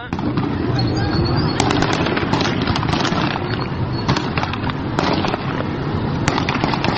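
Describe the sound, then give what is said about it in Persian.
Repeated sharp cracks of birdshot gunfire and tear gas rounds fired by police at protesters blocking the Ahvaz–Ramhormoz road in Qizaniyeh, Khuzestan, burst irregularly over a loud, constant din of a shouting crowd, chaotic throughout. “معترضان جاده اهواز به رام هرمز را مسدود کردند و نیروی انتظامی با شلیک گاز اشک‌آور و گلوله‌های ساچمه‌ای با آنها مقابله کرد.”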